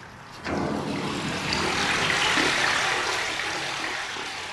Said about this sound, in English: climbs a ladder 12 feet up to the top of her 4,000-gallon water tank and lifts the lid so I can hear it fill.